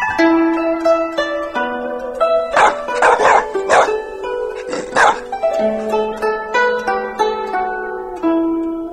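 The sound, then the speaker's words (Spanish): A Shar Pei dog, a breed originating from China, barks several times in quick, loud bursts, with a steady melodic music bed running underneath throughout. “Este tipo de estudios se ha realizado con una raza de perros originaria de China, llamada Shar Pei.”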